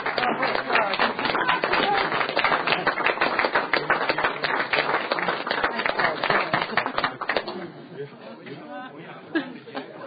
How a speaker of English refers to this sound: Senators, we have another class of fifth graders from Prairie Wind Elementary School. You can see these Laramie County students, just to keep it coming, we just need the schools for them. So if you get a big wave and clap.